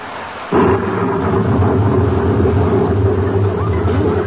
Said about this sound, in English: It's raining.